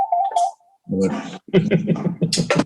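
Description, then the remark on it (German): A short, steady electronic telephone signal tone sounds for about half a second, with a tiny blip after it. Then a person starts talking. “Das war einmal Telefon, die Ausnahmen, sorry.”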